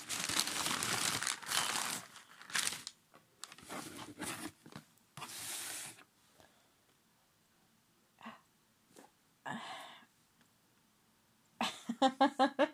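Loud crinkling and rustling of paper being lifted up out of a box, in bursts, with handling noises and brief pauses between, ending in a quick series of sharper crackles.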